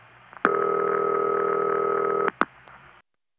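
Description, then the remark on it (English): A single dull Bell System telephone ringback tone from the US, the type phone phreaks called City Ring, a steady buzzy burst lasting nearly two seconds, framed by sharp line clicks before and after, heard alone over a faint hiss. “Well, this is the ring that the phone freaks called City Ring.”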